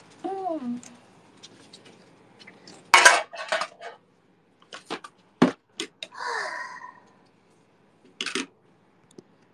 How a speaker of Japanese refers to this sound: 鍋だ。聞こえてないかな？